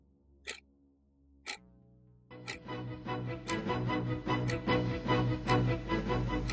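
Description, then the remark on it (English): A clock ticks steadily about once per second, the first two ticks sharp and alone before a loud, dense musical drone swells in and the ticking continues on top of it. “And so, for Gianni Versace, the death of an icon, let's start the clock.”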